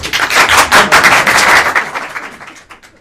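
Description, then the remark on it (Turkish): A crowd applauds with dense, steady clapping at a loud, even level, then the applause thins out and fades over the final second. “Alkışlarla buyurun.”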